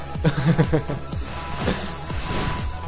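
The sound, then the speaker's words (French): A steady, breathy hiss like a snake runs through the whole clip, fairly loud and continuous, with a few brief muffled vocal sounds near the start. “Il y en a des serpents ici.”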